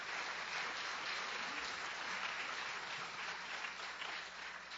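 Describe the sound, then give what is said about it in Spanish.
A crowd claps together in steady, continuous applause for the Lord one morning, many hands overlapping into a dense patter that holds at an even level for several seconds with no voices standing out. “Denle un aplauso al Señor en esta mañana.”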